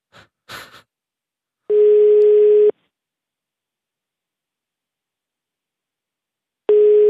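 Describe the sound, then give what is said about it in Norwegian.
A telephone busy signal on a call to the Netherlands: a steady, loud electronic tone sounds for about a second, goes silent for several seconds, then starts again, following a couple of brief handling clicks. “Faen, tatt altså.”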